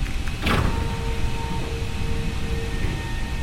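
A submarine chamber floor grinds open to the ocean with a sharp hiss at the start, then a steady motorized whine and low mechanical drone continuing throughout, with no voices.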